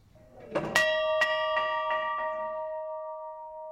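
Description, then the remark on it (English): The old Winslow school bell from Winslow High School, now an artifact hanging at Winslow City Hall and Museum, rings out, struck about half a dozen times in quick succession, its bright metallic tones layering and lingering in a long, steady hum afterward. No one speaks. “The old Winslow school bell is now an artifact.”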